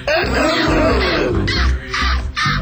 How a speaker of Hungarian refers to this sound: Nátás sirály, Nátás sirály.